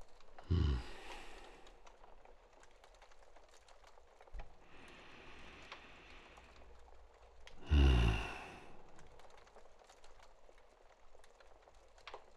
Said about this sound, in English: I should take some deep breaths myself.